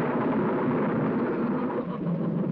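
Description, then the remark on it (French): A loud, continuous rumble of thunderstorm thunder rolls on without a break, dense, with a wash of noisy texture over the low roar and no voices. “ça reste la caricature du son d'orage”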